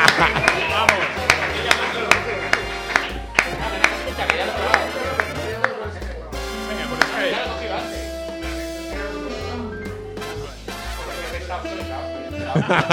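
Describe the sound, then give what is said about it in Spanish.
An audience claps steadily on request for another round, a dense rattling wash of hands with a few sharper claps standing out, while voices and some tonal sound carry on over it. “Quizá yo los aplausos no le dan el mismo vigor que le daban la primera vez, ¿no?”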